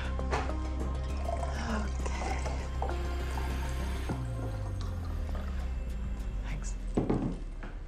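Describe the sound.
Water pours steadily into a glass for several seconds, a continuous trickle with a faint shifting tone, with muffled background noise and some indistinct voices.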